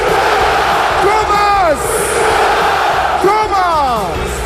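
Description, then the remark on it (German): A packed football stadium crowd roars back in unison after the stadium announcer's goal call for scorer number 25, Thomas, two loud swelling shouts of many voices rising and falling over a constant wash of crowd noise. “Legendär sind seine Toransagen und das Wechselspiel mit den Fans.”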